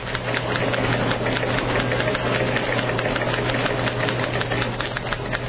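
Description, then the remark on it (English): Several typewriters clatter continuously in a radio newsroom as news programs are rewritten, with Press Association teletypes in the background: a dense, rapid stream of overlapping key strikes over a steady low mechanical hum, with no voices. “Let us turn on a microphone in the newsroom and hear the clatter of typewriters as news programs are rewritten.”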